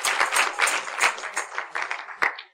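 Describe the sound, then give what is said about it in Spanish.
An audience clapping their hands in praise to God, a dense, steady patter of many claps with a few sharper individual claps standing out, fading off at the end. “Unas palmas a Él.”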